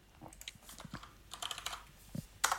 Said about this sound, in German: Hier wird fleißig getippt.